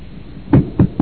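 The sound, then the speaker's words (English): Three firm knocks on a wooden door at midnight while the household sleeps, fairly loud, each one dull and thudding, coming in quick succession after a brief quiet moment. “And then there comes a knock at the door.”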